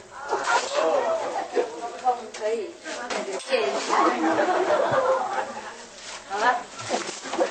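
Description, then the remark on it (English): A single sharp sneeze bursts out partway through while people keep talking and chuckling around it. “God bless you.”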